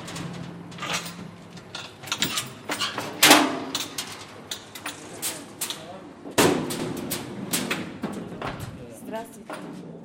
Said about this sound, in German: In einem offenen Schacht nähert sich der Baulift, eine offene Kiste aus Metall. Ein Arbeiter aus Aserbaidschan öffnet uns die schwere Tür.